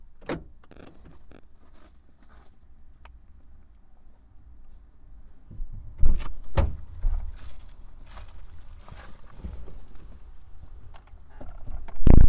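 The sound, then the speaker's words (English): A car door is unlocked with a few sharp clicks and rattles, then pulled open with louder clunks and shuffling, ending in a solid thump. No one speaks. “Unlock the door, dude.”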